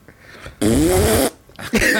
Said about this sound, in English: Get a fart sound.